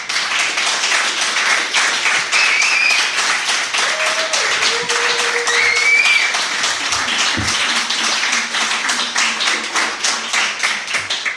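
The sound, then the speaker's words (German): A live audience, asked to clap once more, applauds steadily for about eleven seconds, a dense, loud wash of many hands clapping at once, with a few faint whistles and cheers rising through it. “Jetzt könnt ihr noch einmal klatschen, bitte.”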